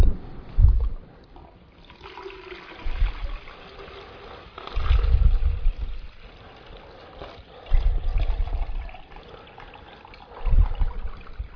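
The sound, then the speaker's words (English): Water splashes and trickles into a container in several uneven bursts, with low sloshing surges and quieter dribbling between them, moderately loud. “There's still water in there.”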